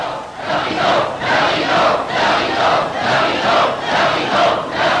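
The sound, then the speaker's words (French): A theatre audience jeers and shouts in a loud, continuous roar of many voices, rising and falling in rough waves about every second with no single voice standing out. “Quel désastre, écoutez-les, mon public.”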